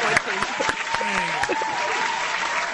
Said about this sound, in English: How about we get applause for both of us, hey?